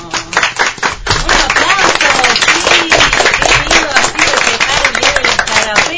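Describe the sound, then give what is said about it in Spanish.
A crowd applauds on the Radio Nacional programme Pido la Palabra, steadily for several seconds, dense overlapping claps at an even, moderate loudness, with some voices and cheers mixed in. “¡Un aplauso!”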